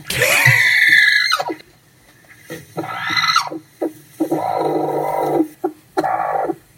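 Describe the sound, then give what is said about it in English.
A chicken squawks loudly: an opening harsh, screeching cry followed by four or five shorter, nasal squawks in an uneven rhythm, with no talking. “That's a real chicken.”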